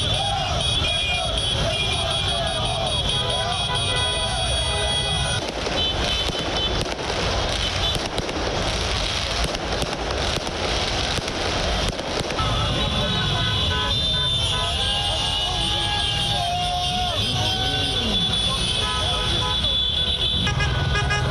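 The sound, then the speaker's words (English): Car horns blare repeatedly over a loud street celebration by Paris Saint-Germain football supporters waving PSG flags and jerseys after their team's 3-0 win over Leipzig sent it to the UEFA Champions League final. A noisy crowd shouts, and sharp bangs like firecrackers go off throughout. “The fans blared car horns and waved PSG flags and jerseys after the 3-0 victory against Leipzig of Germany in Lisbon, Portugal.”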